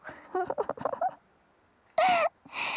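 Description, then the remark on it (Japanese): Short voiced murmurs, a pause, then a loud breathy yawn with a brief whiny vocal tone, followed by a long airy exhale. “なんと見事なおあくびじゃ。”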